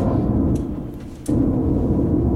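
Heavy, rumbling low-pitched blasts from a noise generator, loud and continuous, easing briefly before a sudden booming burst returns at full strength, like synthesized explosions.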